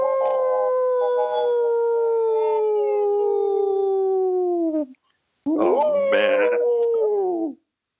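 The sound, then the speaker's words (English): After a countdown, a group of people howl like wolves in one long, loud, sustained wail that slowly falls in pitch, then after a brief pause a second, shorter howl rises and trails off. “So when you guys are ready, we'll just go ahead and just howl to your heart's content.”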